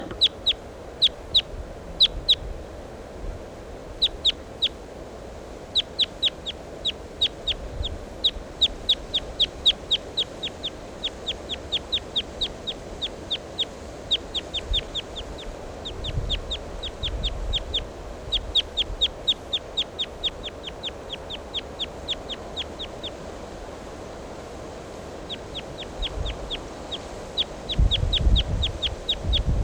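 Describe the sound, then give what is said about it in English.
A wild bird calls in long runs of rapid, sharp, high-pitched notes, pausing briefly between bursts, over a steady low rumble and occasional thumps. “Recording the wild bird.”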